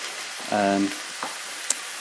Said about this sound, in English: I'm cooking, so you can probably hear sort of a sizzling noise as I'm frying some beef.